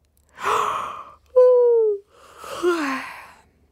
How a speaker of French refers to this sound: Il bâille.